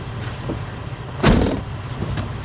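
A car door shuts with one solid thump as someone gets into the car, over a steady low rumble of a vehicle, with faint handling noises before it. No one speaks.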